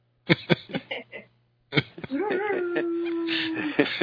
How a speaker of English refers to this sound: Who's that? Was that Roxy howling? Wow. Yeah. She's going into her acoustic her tribal self.